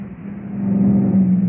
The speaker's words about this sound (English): A truck drove through that one.